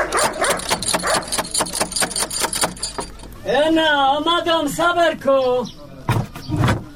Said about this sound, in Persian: اوهو، این چی سگ خطرناک داره که نخوریم ما.